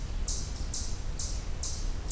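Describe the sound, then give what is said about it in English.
A chipmunk gives sharp, high chip calls, four of them evenly spaced about half a second apart, fairly clear over a low background rumble with no talking. “This is a chipmunk.”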